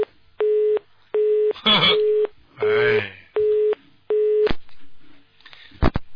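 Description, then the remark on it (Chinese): A repeating telephone busy tone after a dropped call, short steady beeps pulsing at an even rhythm, broken up by bursts of garbled line noise between them, clear and fairly loud. “跳了他电话”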